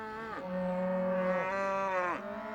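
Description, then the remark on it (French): Cows from herds in the pastures surrounding a church site moo loudly, a long low bellow that rises and falls, followed by another deep call, with no voices present. “Le site est littéralement positionné au milieu des pâturages et des troupeaux de vaches.”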